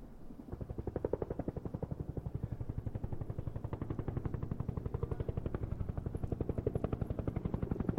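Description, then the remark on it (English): A helicopter flying directly toward the listener, its rotor chopping in a fast, steady, loud rhythm, with a deep engine drone beneath the pulsing blades throughout. “Bebop turned around and saw a helicopter flying directly at them.”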